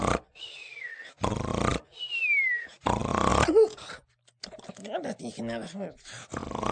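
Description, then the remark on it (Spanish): A voice imitates the loud, cartoonish snoring of Ruperto, lying in the shade of a pepper tree with eyes closed and legs crossed: three rasping inhales, each followed by a thin descending whistle, then a stretch of expressive vocal sounds. Prominent. “Así que se echó a la sombra del pirul, cerró los ojos, cruzó las patas, y al cabo de unos momentos, roncaba sonoramente.”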